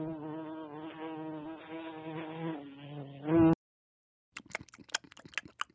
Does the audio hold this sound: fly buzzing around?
yes